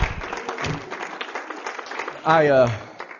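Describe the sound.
An audience claps steadily for a few seconds amid a mix of shouting voices, giving the Lord a shout and a hand clap, with one louder voice rising in a sustained cry near the end before the applause thins out.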